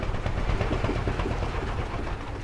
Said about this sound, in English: arriving by boat to an island community in Curaçá, at the mouth of the Amazon River. It's part of a federally recognized conservation reserve.